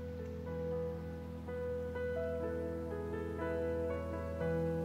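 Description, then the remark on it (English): A steady wash of cascading water flowing over aqua aura crystals runs continuously beneath soft, sustained musical tones and gentle chime-like notes that shift in pitch, a meditation soundscape. No one speaks. “Allow your mind to be cleansed of daily concerns as the cascading water sounds flow over aqua aura crystals.”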